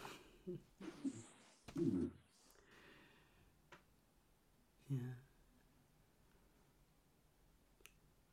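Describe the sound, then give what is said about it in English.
A dog gives a few short, muffled vocal bursts, three in quick succession and then one more after a pause, with soft clicks between them. “Yeah. That's our great dog”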